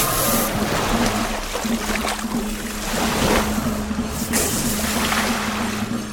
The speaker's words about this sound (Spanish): Sus enormes cuerpos se cruzaron una y otra vez. Kaikai intentaba ahogar entre sus anillos a Trek-Trek, pero esta se rehacía. Y ahora era ella quien buscaba asfixiar a su rival. A cada revolcón la seguían gigantescas olas.